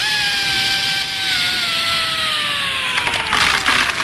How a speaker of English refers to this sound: Now plug in the drill.